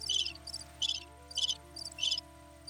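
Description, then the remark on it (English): A crickets chirping sound effect plays alone, with short bright bursts of high trilling repeating in a steady pulse, about six chirps over a low constant hum. “It's the worst crickets ever, but I'm just letting it play out.”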